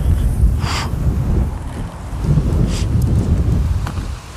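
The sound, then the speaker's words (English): Gusty wind roars against the microphone on a cold day while short hissing bursts of cold water spray from a garden sprinkler sweep past a few times over the rumble. “Sprinkler blowing in the wind.”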